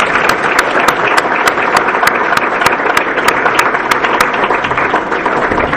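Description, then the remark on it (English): An audience applauds steadily for several seconds, a dense, even wash of clapping with one crisp, regular clap ticking through it at a quick rhythm, thanking a speaker for her talk on family violence, intervention, and faith. No one speaks. “If you can share applause with me and thank her.”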